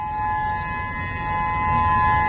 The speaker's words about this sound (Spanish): Hace 24 horas les contábamos cómo las alarmas de tsunami sonaban en el Pacífico.